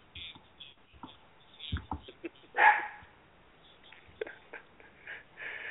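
A dog gives a few short, scattered barks, with one louder, higher-pitched yelp in the middle and some soft whimpering between them. The sounds are fairly faint, and no one speaks.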